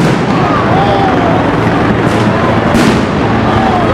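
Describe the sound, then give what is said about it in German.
Two sharp, loud bangs from stun grenades thrown by police into a group of mostly masked demonstrators burst out a moment apart over the constant, dense roar of the protesting crowd, a few blocks from a white elephant installation. “Wenige Blocks vom weißen Elefanten entfernt wirft die Polizei Betäubungsgranaten in eine Gruppe Demonstrierender, größtenteils vermummt.”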